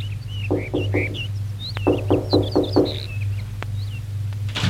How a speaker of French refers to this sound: Elle va chez Charlotte, frappe à la porte.